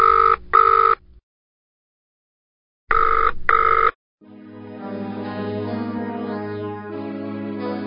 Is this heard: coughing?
no